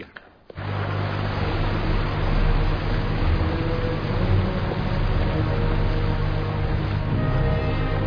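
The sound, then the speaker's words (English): A boat engine drones steadily and loudly after a brief quiet start, a deep continuous rumble with a constant low hum and broad churning noise, no voices. “Don't go any further. Turn off the engine.”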